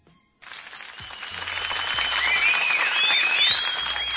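A large crowd breaks into sustained applause that swells and holds steady for several seconds, with a few sharp whistles cutting through the clapping, applauding a romantic singer on stage for the kind words he spoke in Turkish.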